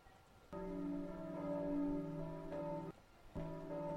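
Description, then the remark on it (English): Church bells ring out with rich, sustained overlapping tones, a loud peal that briefly cuts off and then resumes, over a faint background hiss. “It was church bells. I can play what it sounded like.”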